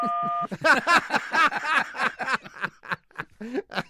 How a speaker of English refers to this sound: And how will we know when we've been caught in a lie? You hear the beep. Oh, the beep. The beep signifies a lie? That's right. Or it signifies something other than the truth.